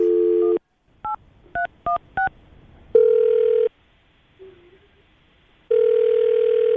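A quick series of four touch-tone dialing beeps as a phone call is placed to a man, followed by two long ringback tones with a pause between them, heard clearly with no one talking.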